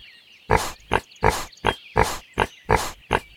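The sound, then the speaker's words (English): A pig in the mud oinks repeatedly in a steady rhythm, eight loud grunting snorts alternating long and short, with a faint high background tone behind them. “Aha, we found him. Shoo the pig out of the mud and into his pen.”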